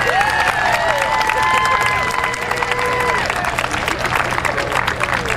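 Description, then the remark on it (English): A large stadium crowd at a Yankees–Red Sox baseball game applauds and cheers for former New York City Mayor Rudy Giuliani, there to umpire, in a steady, dense roar of clapping and shouting, with a few rising whistles and voices cutting through the continuous noise. “Please, a round of applause for our former New York City Mayor, Rudy Giuliani.”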